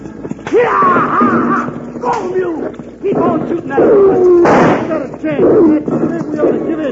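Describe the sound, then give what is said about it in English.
Rifle shots crack out in a rough, uneven string, sharp bursts mixed with loud overlapping shouts and yells from several men, the chaos of a shootout over a loaded freight wagon. “Keep that rifle working, I tell you.”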